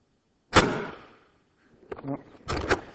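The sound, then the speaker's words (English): An Airzooka fires a sudden, loud whooshing air blast at a cup in an attempt to knock it off; the blast fades over about half a second, followed by brief muffled vocal sounds and another short, rushing burst. “I'm going to attempt to knock this cup off.”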